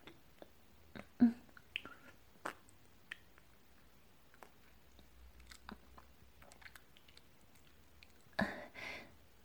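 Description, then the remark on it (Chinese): Quiet wet chewing of soft, juicy xiaolongbao soup dumplings: irregular squishy mouth clicks and smacks with short pauses, then a louder, juicier burst of mastication near the end. No one speaks. “已经被我嚼烂的食物，味道是不是不好啊？”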